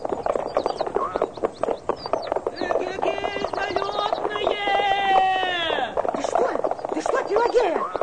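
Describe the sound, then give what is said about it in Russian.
Hooves clip-clop in a quick, steady rhythm throughout, fairly loud, as a horse-drawn vehicle moves along, with a woman driving the horses herself after sending the coachman away. Drawn-out vocal calls rise over the hoofbeats partway through. “А ну, кучер, пошел вон. Я сама с лошадьми управлюсь.”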